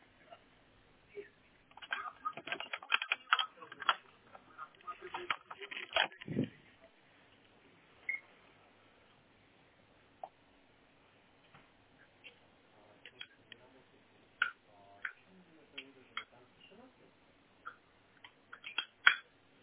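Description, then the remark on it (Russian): A cable is fiddled with and pushed firmly into a device's socket until it clicks: a burst of scraping and plastic clatter, then a scattering of small, sharp clicks spaced out over quiet stretches. “Ну да, еще раз высунуть и еще раз. Так до щелчка плотно.”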